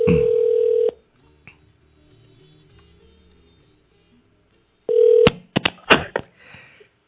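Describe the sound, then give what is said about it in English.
An outgoing phone call to a friend, placed live on the radio, rings on the line: a steady ringback tone sounds, a few quiet seconds pass, then it rings again briefly before sharp clicks and rustling as the call connects. “They say, this boy better don't call me. Let me see if this fellow would answer.”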